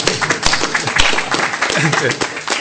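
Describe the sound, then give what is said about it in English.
An audience of conference attendees breaks into a round of applause for themselves at the close of the conference, a dense and steady wash of many hands clapping for a few seconds, with murmuring voices mixed in underneath. “And yourselves, you really deserve a round of applause for yourselves.”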